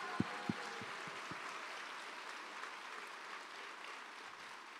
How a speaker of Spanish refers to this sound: Can you give them a big hand les as well? Les puedes dar un fuerte aplauso a ellos.